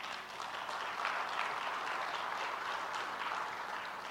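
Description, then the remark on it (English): A church audience at Meridian breaks into steady, sustained applause at the pastor's family's one-year anniversary there, a dense wash of many hands clapping at an even loudness for about four seconds, with no voices rising above it. “I promise you I did not say that for claps.”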